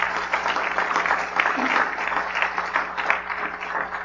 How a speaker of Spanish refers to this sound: Vamos a darles un aplauso a ellos también, por favor.